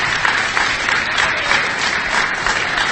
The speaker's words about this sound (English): Ooh, it really doesn't work with everybody clapping.